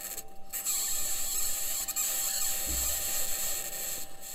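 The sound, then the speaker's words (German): A continuous mechanical scratching and grinding from an instrument on a US rover on Mars, where the average surface temperature is minus 55 degrees Celsius, steady and rasping with a brief low thump partway through, no voices. “Und erraten Sie auch, woher das Kratzgeräusch stammt, das wir jetzt hören?”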